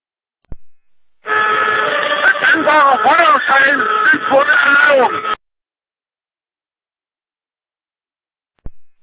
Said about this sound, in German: der Rest kommt nicht an, das Horn ist ein bisschen arg laut im Hintergrund.